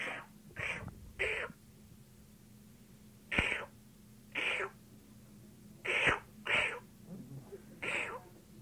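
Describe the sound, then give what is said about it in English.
A group of people imitates seal calls together on a count of three: about nine short, raspy barks in an uneven rhythm, fairly loud, with a low steady hum underneath and brief pauses between. “Seals make noises. Well, do it together.”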